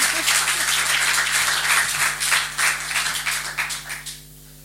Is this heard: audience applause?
yes